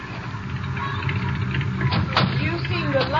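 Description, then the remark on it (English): A car engine rumbles low and steady, swelling slightly as the vehicle draws closer, with a couple of brief clunks and rising mechanical whines near the end. “There's a car coming.”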